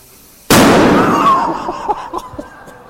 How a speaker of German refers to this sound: Was für ein Donnerschlag. Ich gestehe, ich habe keine normalen Luftballons genommen, sondern extra large. Also besonders groß. Was für ein Donnerschlag.